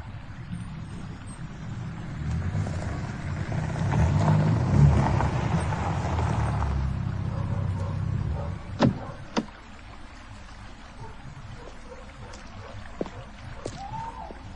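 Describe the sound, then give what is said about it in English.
A car, its lights seen down by the gates, drives towards a house and round the back; its engine rumble builds to a low, steady peak and then fades away, followed by a few sharp, isolated clicks and knocks in the quiet afterward. “It's a car. It's going towards the house.”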